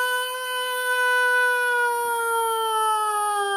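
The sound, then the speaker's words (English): A person imitates a loud cat yowl, one long, sustained, siren-like wail that holds steady and slowly sinks in pitch over several seconds, with no talking over it. “That actually sounded like an air raid thing, didn't it? But that's what the cat sounds so like.”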